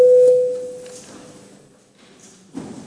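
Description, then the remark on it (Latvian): A parliamentary voting bell sounds as a single steady electronic tone, loud and clear for about a second before fading, rung before a vote on amendments to the Latvian Sentence Execution Code in first reading, followed by quiet ambience and a brief soft bump at the end. “Paldies, lūdzu zvanu.”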